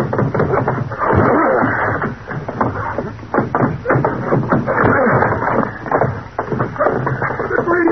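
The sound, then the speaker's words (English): An old wooden door on the land side of a boathouse is forced open by two people hitting it together, with loud thuds and grinding, scraping strain that continues for several seconds, with no one speaking. “We'll probably have to force that old door. Get ready. We'll hit it together.”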